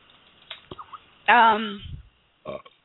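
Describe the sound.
A single loud burp lasting about half a second, trailing off into a low rumble, with faint brief vocal noises before it and a short voice sound afterward.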